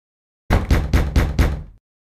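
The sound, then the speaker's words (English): Five firm, evenly spaced knocks on the door of Spencer Manor at midnight, in quick succession, loud, with nothing else audible around them. “What can anyone want here at this time? Open the door, Bartholomew.”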